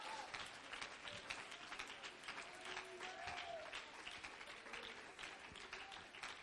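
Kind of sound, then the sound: crowd, audience clapping hands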